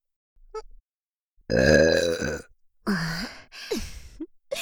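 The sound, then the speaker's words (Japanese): A woman lets out a loud, drawn-out burp, followed by a couple of shorter, croaky burps. The sounds are prominent, with a brief faint noise at the start. “みんなのゲップでしこりまくってね。”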